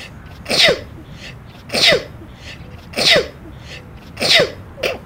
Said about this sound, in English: Oh, the excitement and exhilaration of a sneeze in the wild. Happy little explosions created by the noble nose. Thank you, you proud proboscis.